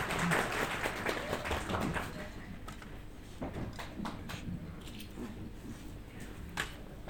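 An audience at Islamic Azad University, Hamedan branch, breaks into warm applause to welcome a speaker, a dense wash of clapping for about two seconds that then thins to scattered, sporadic claps and shuffling.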